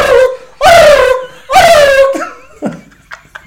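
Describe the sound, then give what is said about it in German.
A voice imitates a turkey gobble: two loud, high, warbling cries that slide downward in pitch, followed by a few quieter, choppy gurgling bursts. “Apropos Truthühner, wie macht's der Truthahn Hahn?”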